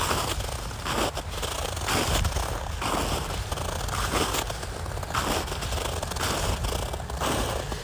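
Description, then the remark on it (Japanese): Footsteps crunch steadily over crisp ground while walking home with a dog named Toichiro, a loud gritty crunch landing roughly twice a second in an even walking rhythm, with no voices. “今日は結構ザクザクといい音がするので、もうちょっと撮ってみようかな。”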